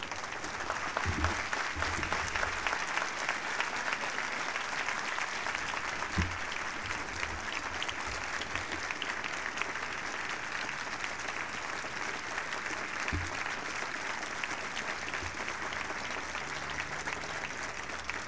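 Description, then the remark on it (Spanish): Sustained applause from an audience for Gabriel Morís, vice president of the Asociación de Víctimas del Terrorismo, dense steady clapping filling the whole stretch at an even loudness, with a few low thumps scattered through it. “Os pido un caluroso aplauso para Gabriel Morís.”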